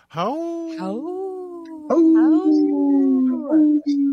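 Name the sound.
people imitating wolf howls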